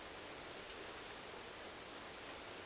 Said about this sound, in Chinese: 细雨落下，湖面荡起层层涟漪。